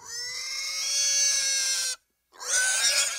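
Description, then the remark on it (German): A piglet screams in two long, shrill bursts, the first about two seconds of sustained high-pitched squealing, then a brief silence before a second harsh scream begins. “Ein Ferkel schreit.”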